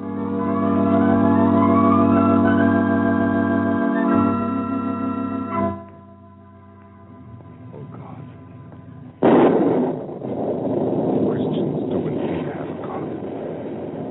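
Sustained, slowly rising tones fade out, then a sudden loud crack of thunder from an arriving storm breaks in and trails into several seconds of rough, rolling rumble.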